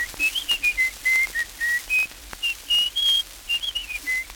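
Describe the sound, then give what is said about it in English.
A tin whistle plays a quick run of high, thin notes, rising and falling in a bouncy little tune, clear with no one talking. “A tin whistle.”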